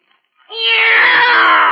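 A male cat lets out one loud, drawn-out meow, rising into a sustained wail after a brief moment of silence, with no talking.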